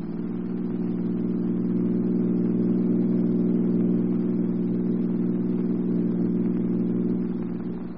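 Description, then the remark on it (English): A car's engine drones steadily with a low, even hum for several seconds, then eases off slightly at the very end as the car drives away. No voices are heard. “You drive on as though we were still with you.”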